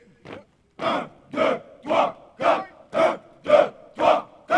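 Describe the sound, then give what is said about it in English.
Dozens of Haitian soldiers shout in unison during drill at a military camp in Léogâne, about an hour outside the capital, eight or nine loud, evenly spaced chant-like bursts about half a second apart, each a strong massed cry with short gaps between. “At a military camp in Léogon, about an hour outside the capital, dozens of soldiers practice drills.”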